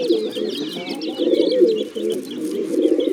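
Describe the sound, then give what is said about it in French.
Several pigeons coo in low, throaty, overlapping murmurs that continue without a break, with faint higher bird chirps flickering above them, fairly loud. “Les pintades. Les oies. Le dindon. Et même les pigeons.”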